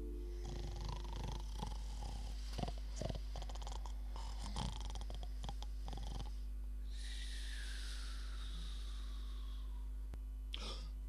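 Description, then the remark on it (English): A man snores alone: a long, rough, rattling intake of breath followed by a thin, whistling exhale, fairly quiet, heard as a single slow snore cycle. “And so for hours on they rambled till the sun swept low, discussing deeds and dealings of the royal Duke Hennivaux, until his lids grew heavy and his lips replied with snores.”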